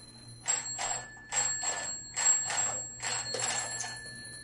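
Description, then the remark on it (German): A telephone rings in several quick bursts of bright, rattling bell tones separated by short gaps, clear, with a faint steady hum underneath and no talking. “Ich rufe dich an. So mache ich jetzt.”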